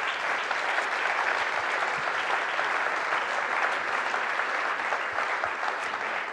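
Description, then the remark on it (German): A crowd at a church gathering applauds a speaker steadily, a dense wash of many hands clapping at an even, loud level that holds for several seconds without pause. “Ich komme, geben dir einen Applaus.”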